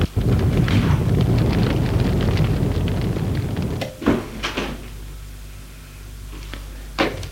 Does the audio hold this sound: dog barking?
no